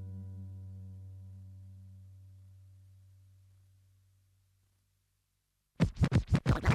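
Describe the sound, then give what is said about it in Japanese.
A low, steady tone fades out into a moment of silence, then a loud burst of vinyl record scratching on a turntable follows: about six quick back-and-forth strokes of the record in a tight rhythm. “毎日レコードを前後させて喜んでます。”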